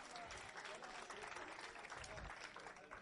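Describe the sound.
An audience applauds with dense, steady clapping that holds at an even loudness for about three seconds, with faint voices mixed into the crowd.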